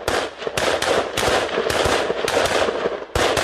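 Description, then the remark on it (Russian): Sharp, overlapping bursts of automatic assault rifle fire from soldiers at a training range during assault-tactics drills crackle almost continuously, rapid reports piling on each other with a brief pause near the end, as the fighters dash forward, before shooting resumes. No voices are heard. “Бойцы стреляют из автоматов, потом перебежка, снова открывают огонь и занимают позиции.”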